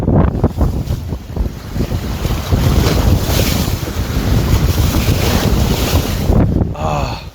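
nature, sea waves and wind

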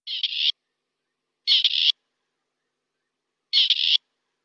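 bird, grey partridge call

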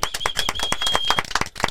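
crowd, group clapping hands

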